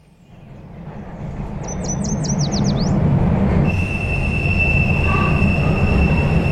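A subway train rumbles along the rails on a short ride to Harvard Square, its low roar building steadily and staying loud, with high metallic wheel squeals and a sustained whine riding above the noise. No one speaks.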